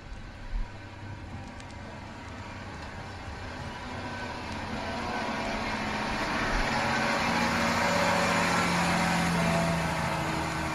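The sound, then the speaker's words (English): A large water delivery truck, bringing a neighborhood's daily water ration, idles with a steady, low rumble and broad mechanical hiss, swelling slightly louder about halfway through and holding there, with no voices. “Trucks were assigned to deliver our daily ration.”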